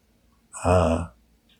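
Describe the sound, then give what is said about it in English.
A single heavy, rasping breath of a man breathing behind a mask over his face, fairly loud, lasting about half a second before fading into quiet. It sounds slightly muffled, as if drawn through a covering. “You can hear his breath behind his mask. It's rasping.”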